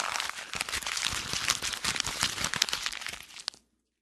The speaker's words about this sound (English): And now you're going to crumple it up into a little ball, throw it on the floor. There you go.